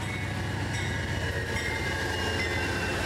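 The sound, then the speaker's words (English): An Amtrak passenger train of about nine cars and an engine rumbles past in Ashland, a steady heavy roar of wheels and engine with a faint tonal hum above, holding constant throughout with no voices. “All right, here's the train. This is what we love about Ashland. We're Amtrak.”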